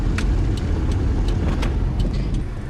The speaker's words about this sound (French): Donc là par exemple, on s'arrête pour laisser passer une voiture qui arrive de l'autre côté.